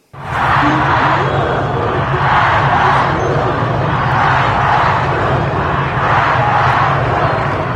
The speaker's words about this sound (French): Mort aux menteurs, voilà ce que crie cette foule iranienne, entre autres slogans hostiles, en particulier aux gardiens de la révolution islamique et au guide suprême